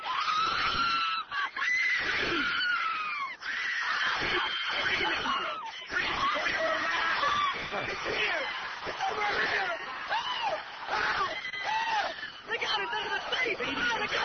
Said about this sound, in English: The tingler has been paralyzed by your screaming.